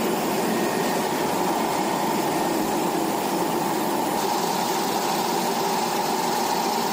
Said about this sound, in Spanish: Las imágenes son impresionantes, con la lava en erupción. Ni más ni menos que 150 metros cúbicos por segundo. Y el sonido, Herrera, el sonido de la erupción captado desde un helicóptero que sobrevuela la zona.